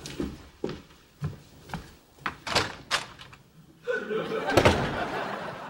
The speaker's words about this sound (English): Did she just use the front door? Uh-huh. She's never used the front door before.